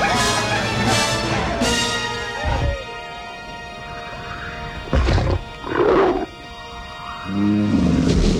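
Wolves snarl and growl in a loud fight with a deep roaring beast, pouncing, knocking him to the ground and tearing at his fur until he tosses them aside and they retreat, with harsh bursts of roars and yelps erupting every second or two and no one speaking.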